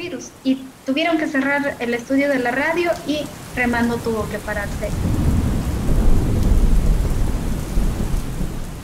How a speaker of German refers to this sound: setzen heftige Regenfälle und Hochwasser der indigenen Gemeinde schwer zu